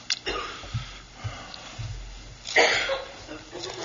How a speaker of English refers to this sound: still coughing. Those cigars you've been smoking, they're going to get you, I'm telling you. She won't smoke them around here, but you know, at home.